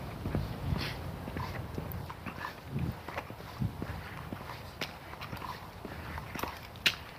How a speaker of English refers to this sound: Oh, he wanted to come say hi to me, that dog.